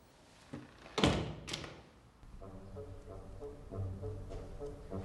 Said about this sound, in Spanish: Saca de su bolsillo la llave que encontró en la sala de música. La introduce en la cerradura. La puerta de la casa se abre. No llega a entrar. Sorprendido y pensativo, vuelve a cerrar y se marcha.